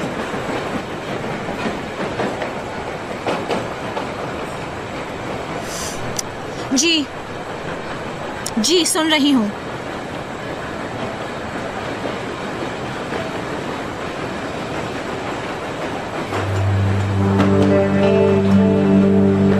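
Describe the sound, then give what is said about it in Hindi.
A metro train rumbles steadily along its rails as a woman enters the metro, with a couple of brief wheel squeals midway and a rising tonal hum near the end, while the woman speaks briefly over the noise. “हाल इस वक्त मैं ऐसी पोजीशन में नहीं हूँ कि सिलसिले में आपसे गुफ्तगू कर सकूँ, मैं मेट्रो में दाखिल हो रही हूँ।”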